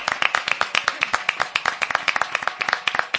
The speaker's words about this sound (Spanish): Pues vamos a pedirle un fuerte aplauso a todo el mundo que está ahora mismo en estos premios a Cuerpo de Rey. ¡Vamos!